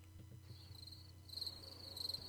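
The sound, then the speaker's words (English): A cricket chirps steadily in a high, thin trill, its rapid pulses growing a little stronger partway through, over a soft low hum with no voices. “Do you have that cricket sound effect up?”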